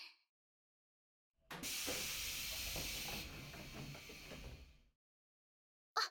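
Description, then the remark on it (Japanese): A train door opens with a loud pneumatic hiss, a sharp burst of air that lasts a few seconds, with low mechanical clunks underneath, then fades out. “一回開いた。”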